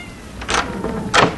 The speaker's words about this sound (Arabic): نعم يا أبي، ولولا أن سمعت مواءها لما فتحت لها الباب لأدخلها وأطعمها.